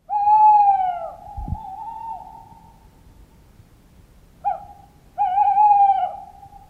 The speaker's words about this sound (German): Das war unsere häufigste Eule, der Waldkauz. Das ist eine Vogelstimme, die sehr viele Menschen wahrscheinlich aus Filmen kennen.